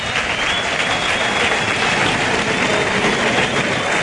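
A bullring crowd at a bullfight gives a sustained ovation after the bull collapses, a dense, even roar of clapping and cheering that holds steady and loud for the whole stretch, with no individual voices standing out.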